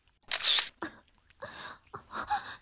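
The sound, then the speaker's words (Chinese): A camera shutter clicks several times in quick succession, crisp, with short mechanical whirs between shots as photos are taken of a person, and no voices. “你把我如此狼狈的样子拍下来，下流！”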